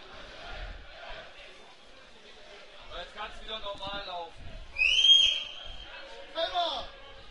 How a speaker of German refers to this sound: So, er wartet jetzt auf den Wechsel oder pfeift der Spieler an? Nein, er pfeift der Spieler an, also der Wechsel noch nicht vollzogen.